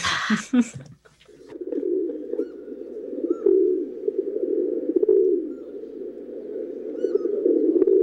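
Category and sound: bird, rock pigeon cooing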